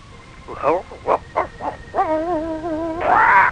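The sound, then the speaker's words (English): Shep, Wonder Dog of the Island, gives four quick, loud barks, then lets out a long wavering howl that ends in one more drawn-out bark. “And now, the mainline presents Shep, Wonder Dog of the Island.”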